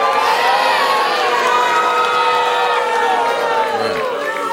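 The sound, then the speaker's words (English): A large crowd at a live edition of The Daily Show on election night cheers and shouts continuously as Florida's 25 electoral votes are called for George W. Bush, a loud, steady roar of many overlapping voices with high whoops and yells rising through it for several seconds. “And the crowd loves it.”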